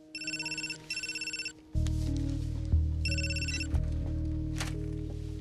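A telephone rings on a call dialed from a mobile phone, in two bursts of a trilling bell, then a loud low hum sets in under a second, fainter ringing burst, with a couple of soft knocks; no one speaks.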